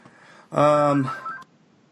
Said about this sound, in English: Sorry guys, I got a phone ringing.